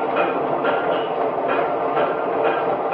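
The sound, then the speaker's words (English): A train rolls steadily along the rails with a continuous rumbling roar and faint repeating clatter from the wheels, loud, with no voices. “More implements came out of the factories, weapons to fight the enemy, tools to till the soil, trucks and trains to transport the war supplies.”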